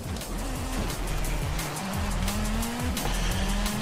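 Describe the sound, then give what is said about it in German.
In a racing video game, a car engine drones steadily while tires squeal and skid in long, wavering screeches, loud, as the car slides out of control, with no voices. “Alter Mann, warum schleudert er denn so? Alter, der schleudert wie die Sau.”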